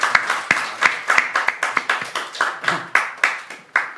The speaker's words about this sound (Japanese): はい、では拍手を持って歓迎いたしましょう。